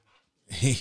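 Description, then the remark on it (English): A big bulldog named Raider panting: one faint breath, then a louder, raspy huff with a low throaty edge, all over in under a second. “Raider's a big bulldog that is the best, dude.”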